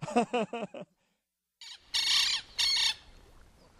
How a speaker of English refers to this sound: That was a lapwing, a bird which I never caught sight of. Only the microphone caught that one.